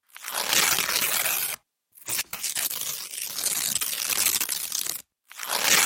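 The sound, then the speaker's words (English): A paper drawing being torn apart in several long, loud ripping strokes separated by brief pauses, with a crisp, crackling texture and no voices. “Here she is tearing up the drawing.”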